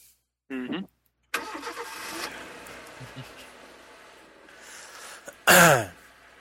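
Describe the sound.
A car engine cranks and catches with a loud roar, then settles into a steady running rumble as the car pulls away. Short voice-like bursts come near the start and end.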